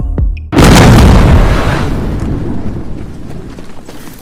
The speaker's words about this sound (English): That's good, but the explosion needs to be bigger. There needs to be more fire.